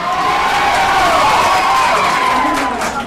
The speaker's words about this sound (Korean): 자, 토론이 시작하자 박수로 후보들을 환영하고 또 자신이 지지하는 후보가 옳은 소리를 하면 환호를 했지요. 반면 자신이 지지하지 않는 후보가 발언을 하면 야유를 보내기도 했습니다.